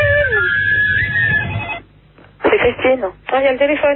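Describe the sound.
A telephone rings with a steady electronic tone for over a second over a low rumble, then a voice starts talking.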